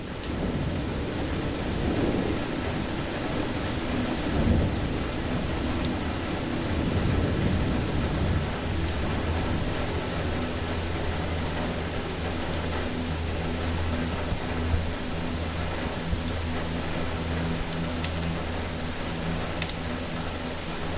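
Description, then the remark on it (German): Heavy rain pours down outside a hut in a dense, steady patter, with a low rumbling underneath like thunder; no voices, just the constant wash of the downpour throughout. “Der Regen draußen scheint an Intensität zuzunehmen.”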